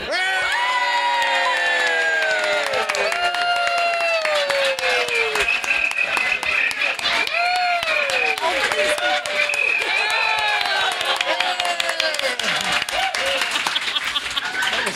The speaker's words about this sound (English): I'm going to count to three. And to wake everybody up, we're all going to cheer and laugh and be really loud for like 5 seconds.